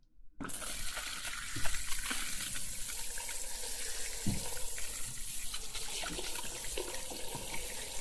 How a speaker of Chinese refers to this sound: 好了，我们开水了，水温不合适的话，你跟我说啊。